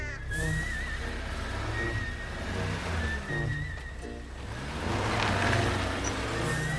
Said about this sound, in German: Die Autoschlange ist lang, sehr lang. Auf halber Strecke hat das Gehupe den Neuhofer Kurt aus dem Haus gelockt.